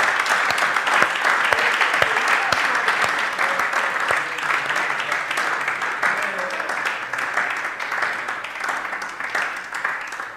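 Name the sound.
audience clapping hands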